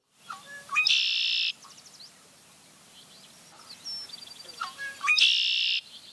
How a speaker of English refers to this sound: We can expand on this form of representation by creating our own phonetic units that stand for bird songs. Thus, we might write down conquerie to help us remember the song of the red-winged blackbird.